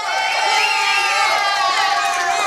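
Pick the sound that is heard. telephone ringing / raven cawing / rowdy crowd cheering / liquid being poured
rowdy crowd cheering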